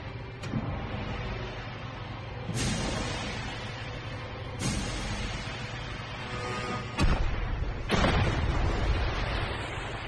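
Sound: two underwater torpedo explosions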